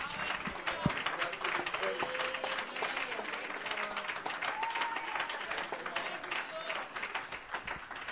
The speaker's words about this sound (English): Let's give the Lord a good hand clap of praise once again this morning.